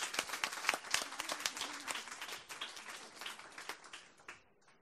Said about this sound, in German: Auch einen grossen Applaus für die zwei Frauen.